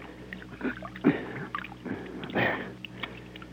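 Dirt and clods, knocked off a bank by someone being boosted up it, tumble into water, giving a few soft, scattered splashes and plops, with two fuller bursts standing out against a quiet outdoor background.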